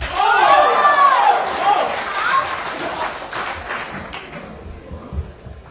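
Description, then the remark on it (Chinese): An audience at a Deyunshe crosstalk show claps and cheers in a dense, continuous wash of noise, welcoming the next act, with voices calling out over it. The applause is loudest at first, then gradually thins and fades. “下面呢，请您继续欣赏经典翻唱大串烧，掌声有请。”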